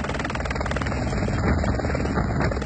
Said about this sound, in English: A helicopter was flown in to help in the rescue.